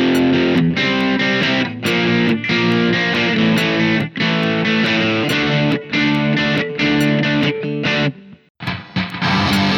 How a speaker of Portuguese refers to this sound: e finalmente uma guitarra com distorção do heavy metal. Percebam a diferença entre os timbres das três sequências de acordes.